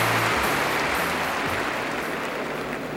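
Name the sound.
stadium crowd cheering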